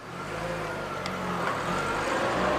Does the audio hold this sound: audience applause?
no